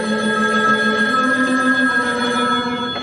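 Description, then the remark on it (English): A telephone rings with a steady, unbroken electronic tone that holds at an even loudness for the whole stretch, clear, with no voices. “please, darling, I'm on the phone.”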